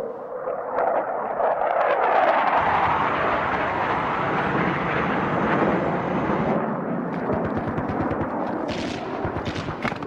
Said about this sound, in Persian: این هواپیما کجا داری میاد؟ از منطقه عملیاتی هرمزدین.